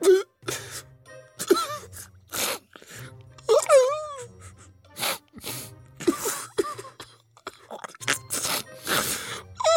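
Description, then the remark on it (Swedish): A single voice acts out crying: repeated sharp, breathy sobbing gasps broken by wavering, high wails and moans, with no words, lasting throughout. “Hon föll ut i gråt.”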